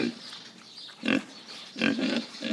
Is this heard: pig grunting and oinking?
yes